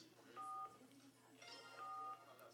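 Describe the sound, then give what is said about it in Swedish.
Two telephone keypad tones from callers phoning in and pressing the button, each a steady dual-pitched beep lasting about a third of a second, sounding over a second apart against a faint, murmuring background. “Det var inte alls irriterande när folk kom på och så sån här CP-tjejer som ringde in och håller in knappen jättelänge och skulle göra någonting.”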